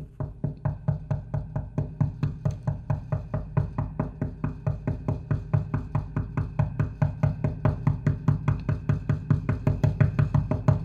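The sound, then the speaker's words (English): Someone knocks over and over as an illustration of persistent knocking: rapid, steady knocking about three to four times a second for roughly eleven seconds, each knock a sharp, hollow thud at an even, slightly building loudness, with no voices. “This is what happens if you keep knocking, okay?”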